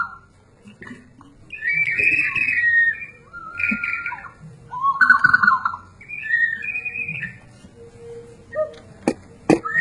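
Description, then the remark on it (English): A warbling, bird-like whistle blown in several bursts, its bubbling trills rising and falling, with a few sharp clicks near the end and no voices. “А это вообще что-то другое. Это еще инструмент. Водой, например.”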